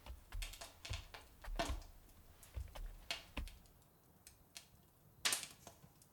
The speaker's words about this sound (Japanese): ん？もう部屋は暖かくなっていますね。ここのいろりの薪の音を聞いていると不思議と癒されるんですよ。